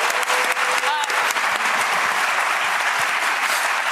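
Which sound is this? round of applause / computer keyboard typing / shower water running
round of applause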